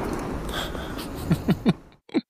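Steady rushing of water streaming along a boat hull, then a few short, low throaty snores from a soldier that break through as the flow fades into near silence.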